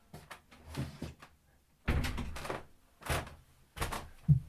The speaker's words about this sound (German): Der Olli geht zur Tür. Macht auf.